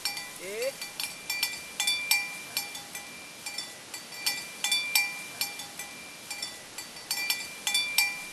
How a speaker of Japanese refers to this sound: 数世紀にわたるマサイの伝統の一部だった牛を追う音は、まもなくただの記憶になるかもしれません。